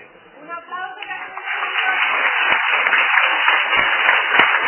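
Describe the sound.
An audience applauds to say goodbye to a guest. The applause builds over the first couple of seconds into a steady, dense wash of many hands clapping, with some voices audible at the very start.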